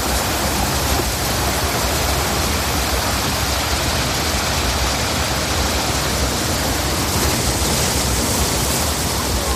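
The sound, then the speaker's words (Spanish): Sea waves make a steady, loud, hissing roar of surf that washes on without pause or distinct breaks, with no voices over it. “Fíjate que hoy mezclamos el misterio con el sonido de las olas del mar.”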